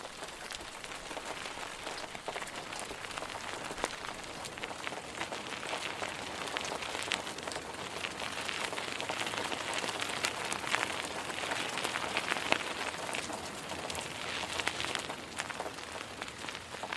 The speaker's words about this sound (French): La pluie, fine tout à l'heure, devenait plus épaisse et mouillée.